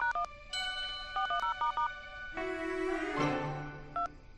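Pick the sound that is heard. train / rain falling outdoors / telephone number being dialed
telephone number being dialed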